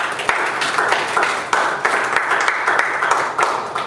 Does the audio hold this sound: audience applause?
yes